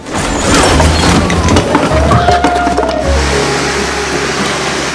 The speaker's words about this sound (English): Suddenly, she stumbles backwards and knocks over the trolley full of cleaning supplies.